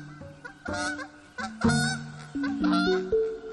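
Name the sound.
wild goose honking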